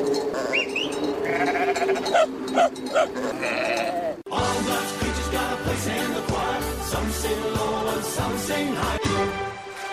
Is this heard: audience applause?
no